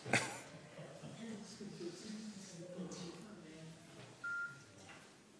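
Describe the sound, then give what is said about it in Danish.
A sharp click at the start, then a single short electronic beep from a phone keypad a few seconds later as the phone is switched to silent mode, with faint murmuring in the background. “jeg har ikke slået min telefon på lydløs, undskyld, det skal jeg lige gøre, det så jeg ikke skal betale.”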